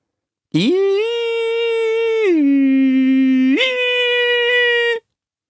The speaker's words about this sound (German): Zunächst hielt er es für eine Sirene oder Alarmanlage. Ein langgezogener, schriller Ton, der sich absurd hob und senkte.